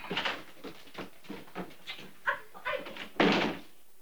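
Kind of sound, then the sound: household object, front door closing shut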